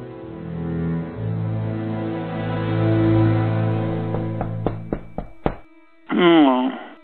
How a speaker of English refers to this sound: At Rex and Perry's apartment, Perry is home alone, half asleep, when he hears a knock on the door.